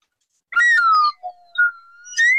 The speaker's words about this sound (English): I have like a winner whistle, but I can't find it. So I'm going to have to substitute for a whistle that doesn't sound like a winner, but it is a whistle nonetheless.